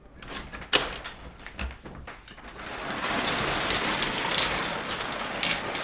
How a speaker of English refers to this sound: But this is the exterior wall. Oh, yeah. You can see the old historic penetrations. Yeah. And we're going to open this garage door.